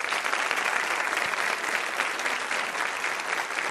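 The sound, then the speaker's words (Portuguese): A television broadcast audience claps steadily for three members of the Academia Brasileira de Letras, including writer Ana Maria Machado, a dense, continuous wash of many hands that holds an even loudness for the whole stretch, with no voices rising above it. “Dos 40 imortais, temos a honra de receber e aplaudir agora esses três.”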